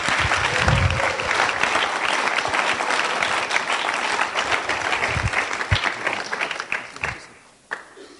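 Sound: audience applauding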